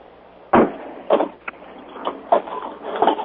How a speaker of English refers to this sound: But I'm hearing a lot of noise on the call. Does anybody know who's banging around? Did it hurt when I came on? It's my printer. I'm sorry.